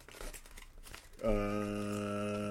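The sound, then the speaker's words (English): A crumpled sheet of paper is uncrumpled, crinkling and rustling in a busy run of crackling for about a second, then a loud, steady, buzzing tone abruptly cuts in and holds to the end. “Hold on, let me uncrumple this paper.”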